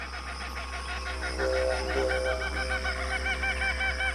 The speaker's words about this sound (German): Morgens um 7, wenn die ersten Sonnenstrahlen den Tau von den Sträuchern und Gräsern sammeln, ist Australiens Vogelwelt schon ausgesprochen munter.